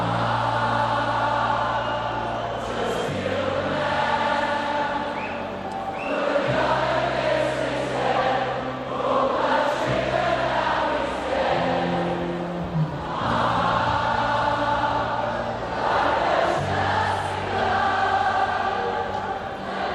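A concert crowd of several thousand people sings a demanding song together in unison during another band's break, their massed voices loud and continuous, sliding from note to note with a roaring, slightly blurred sound across the whole stretch.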